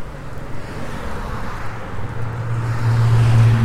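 road traffic

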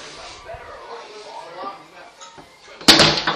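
door being opened

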